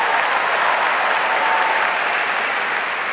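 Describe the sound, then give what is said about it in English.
Steady, dense applause from a large audience after an orchestral performance, a continuous wash of clapping that holds at a fairly loud level throughout, with no voices standing out. “There's the famous chase music, the final 11 triumphant cannon shots, and applause, applause.”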